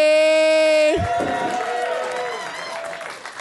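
A loud, steady held note cuts off after about a second into a burst of audience cheering and clapping for a guest, with whoops over a noisy crowd roar that slowly fades.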